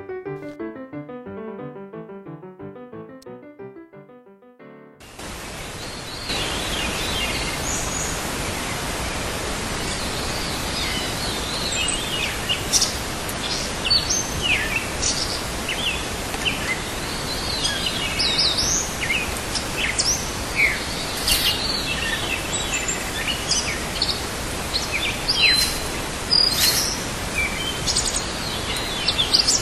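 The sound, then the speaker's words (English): A dense dawn chorus of many birds chirping and singing at once over a steady background hiss, continuous and fairly loud, preceded by a few seconds of soft tonal notes. “The boonie clock is the sound of the birds waking up in the morning.”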